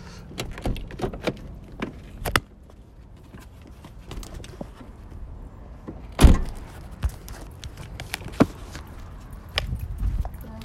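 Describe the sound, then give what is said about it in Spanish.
A car door clicks and rattles open, followed by one loud, solid slam as it shuts, with a few smaller mechanical knocks and clunks around it and no voices. “La puerta no quedó bien cerrada.”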